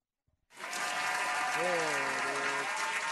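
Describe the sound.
Applause bursts in after a brief pause and holds steady as a dense, loud wash of clapping, with a faint voice tone sliding through partway under the noise.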